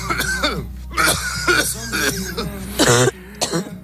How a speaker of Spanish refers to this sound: Mientras el país empieza a acomodar al frío, las toses persistentes, la fiebre, han empezado a abrirse paso con rapidez, llenando muchos centros de salud.